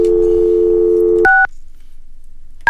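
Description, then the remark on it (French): A steady telephone dial tone hums for over a second, then gives way to two sharp, loud dialing beeps separated by a short quiet pause as a phone number is dialed. No one speaks. “Il me semble que c'est fort, ces petits bips-là.”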